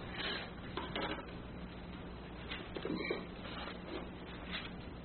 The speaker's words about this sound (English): It sounds like we might be getting a little rain out there.